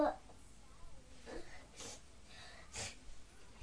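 A small child tries to blow their nose, producing two or three short, breathy snorting puffs, soft and uneven, separated by brief pauses.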